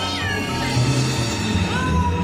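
cat meowing

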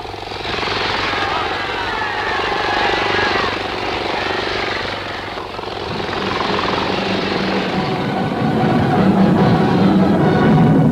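engine roaring

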